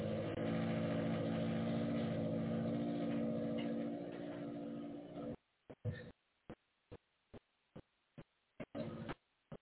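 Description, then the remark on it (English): A neighbor's car engine rumbles loudly and steadily for about five seconds, then cuts out abruptly, followed by a series of evenly spaced sharp ticks. No one speaks. “Yeah, the neighbor just started his car.”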